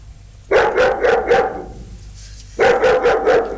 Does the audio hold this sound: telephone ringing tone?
no